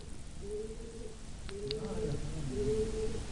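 Pigeons coo in the morning in low, soft, repeating phrases, three drawn-out calls in a row against a steady background hum.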